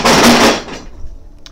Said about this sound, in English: That was a table that was knocked down by the wind.